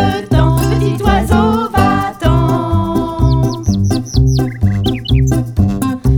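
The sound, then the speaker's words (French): A small bird chirps several times in quick, high, rising notes clustered in the middle, sitting over loud, full instrumental music that plays throughout. “Petit oiseau, va-t'en.”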